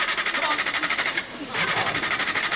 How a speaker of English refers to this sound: A stalled, poorly maintained car as a metaphor for this country's crumbling infrastructure.